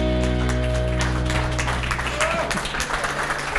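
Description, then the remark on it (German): Audience applause at a live show of a band in the Rosenberger Alm in Kronach: a dense, steady wash of many hands clapping at even loudness throughout, layered over a low, constant hum. “Ja, danke für den Applaus.”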